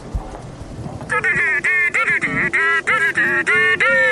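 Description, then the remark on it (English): A mobile phone ringtone, one of the phone's three ringtones, plays loudly, a rapid string of about a dozen short, buzzy, honk-like tones with slight pitch bends, starting after a second of low background noise. “It's got three ringtones, that's the name for the ring. There's this one, right?”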